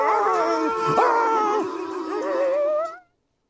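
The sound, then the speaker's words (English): A person's voice loudly imitates an attacking dog, the one that came flying right up on them in Eagle River, with a sustained snarling howl that wavers in pitch for about three seconds, then cuts off abruptly. “That dog that got me in Eagle River came flying right up on me like”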